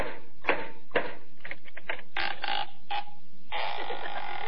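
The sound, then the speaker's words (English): Costello knocks on a door, a couple of firm knocks, then a quicker run of lighter raps, followed by a long creak as the door seems to swing open. No one speaks. “Costello, once and for all, will you please knock on the door?”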